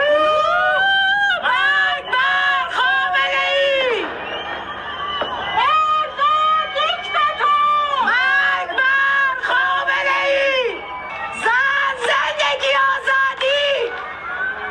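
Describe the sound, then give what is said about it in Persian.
Many voices shout rhythmic protest chants in repeated bursts, loud and strained, including 'death to Khamenei' and 'death to the dictator', rising and falling over nearly fifteen seconds, as people call out from the rooftops and windows of their homes in Chitgar township, Iran, at the moment of the Nowruz new year. “همزمان با تحویل سال در بسیاری شهرهای ایران از جمله تهران فریاد اعتراض مردم هم از پشت بام ها یا پنجره های خانه هایشان شنیده شد.”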